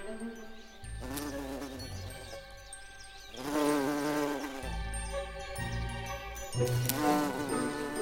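A bumblebee buzzes in flight from flower to flower, its low droning hum rising and falling in pitch as it moves about, with brief swells of loudness and no voices.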